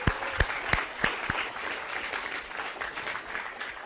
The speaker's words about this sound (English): Another round of applause if we could.